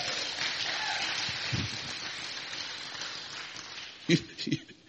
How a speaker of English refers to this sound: Oh, if you believe it, clap like you believe it, all right?